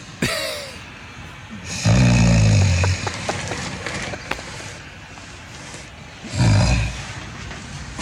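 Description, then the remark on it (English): Two loud, rasping snores, each a low rumbling rattle lasting about a second, separated by a few seconds of quieter breathing and background noise. “I hear the snore. Oh, you cutting wood, bro.”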